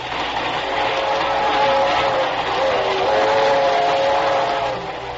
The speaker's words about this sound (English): As our story opens, we find Dr. Danfield, authority on crime psychology, and his pretty young secretary, Rusty Fairfax, on a train which is heading toward the fashionable resort town of Cranston in upper New York State.